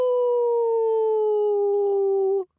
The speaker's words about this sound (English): A wolf watchdog raised the alarm and the farmer came running towards the orchard.